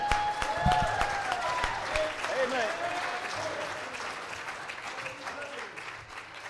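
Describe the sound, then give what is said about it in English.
A church audience claps for the Lord during a morning service, a dense, sustained patter of many hands for several seconds, with voices calling out and a brief spoken word mixed in, fading slightly toward the end. “We ought to clap our hands unto the Lord.”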